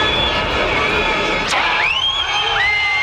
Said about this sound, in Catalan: Va, per exemple, la xiulada que es va endur Luis Figo l'any 2000. El més calent. El més calent, sí? De tots. Per la xiulada, eh? Això el 2000, la primera vegada que el portuguès va trepitjar el Camp Nou amb la samarreta del Madrid.